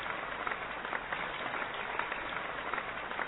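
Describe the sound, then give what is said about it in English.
Steady audience applause welcoming a guest, a mental health expert and author, onto a show fills the whole stretch, a dense wash of many hands clapping at once, fairly loud and even with no voices standing out. “So please give a round of applause and welcome to our show, Mr.”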